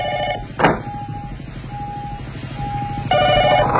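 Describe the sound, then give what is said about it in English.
A telephone rings in repeated electronic trilling bursts, with a sharp knock-like thud near the start and a low background hum beneath; no one speaks. “Why don't you answer your phone?”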